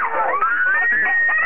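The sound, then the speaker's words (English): Middle school children in Albuquerque scream together inside a school bus without seatbelts as a car crashes into it in 2022, a sustained, high-pitched wail that rises and holds, loud, with overlapping voices blending into one continuous cry and no words spoken. “You can hear their frightened screams.”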